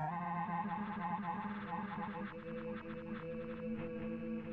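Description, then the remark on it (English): A reversed audio loop, about 5 seconds long, with its pitch brought back up, plays as a dense, warbling wash of smeared tones, steady and fairly loud throughout, with a processed, slightly distorted, effects-heavy character. “Looks like I bring the pitch back up. Or I can reverse it too.”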